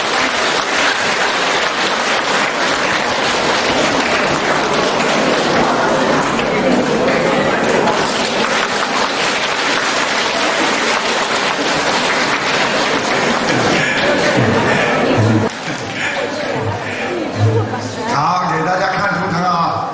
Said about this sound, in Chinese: 让我们用最热烈的掌声，恭喜我们尊敬的卢军红台长。